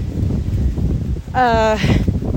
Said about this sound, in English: It's very windy, as you can hear.